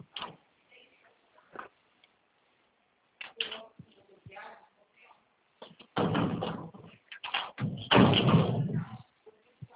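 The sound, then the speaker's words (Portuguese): A door is worked open and shut: a string of latch clicks and light knocks, then a louder stretch of rattling and thumping as it swings and closes, with faint voices around. “Aqui é o contrário, aqui já tá fechando, já tá abrindo. A porta aqui é o contrário, pessoal.”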